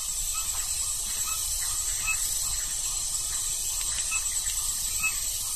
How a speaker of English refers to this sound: And we can hear in the background a frog. My guess is that this is a poison arrow frog. It's a solitary guy. It's a very unique call.